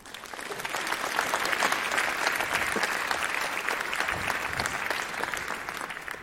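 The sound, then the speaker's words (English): An audience claps steadily as a speaker is introduced to give a talk, a dense wash of hand claps holding at a fairly loud, even level for several seconds before tapering slightly at the end. “Give her a warm applause.”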